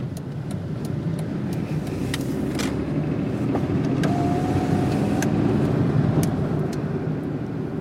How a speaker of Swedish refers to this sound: Men hans Toyota Aygo rullar långsamt, i snitt 50 km i timmen.